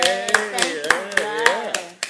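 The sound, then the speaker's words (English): Hands clap in a steady rhythm, about eight sharp claps spaced roughly evenly, while voices cheer and vocalize underneath throughout. “So can we clap for that?”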